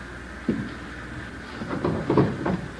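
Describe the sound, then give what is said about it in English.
A living-room desk drawer or cupboard is handled as things are turned out to make it look like a burglary: a single wooden knock, then a cluster of rattling, scraping thumps as it slides and bumps open, with no voices. “Desk drawer, table, cupboards. Turn them inside out, throw things around.”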